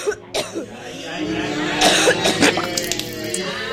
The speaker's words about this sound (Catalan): Quan amb ella li agafen aquests atacs de tos